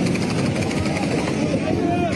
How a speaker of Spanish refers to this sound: Es el sonido de un tiroteo cuando cientos de palestinos desesperados intentaban acceder a alimentos.